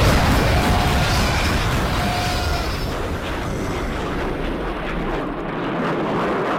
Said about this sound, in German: So klingen tatsächlich Bomben, die auf Alpakas fallen, aber natürlich nicht in echt, sondern nur als Teil einer Videospielsatire.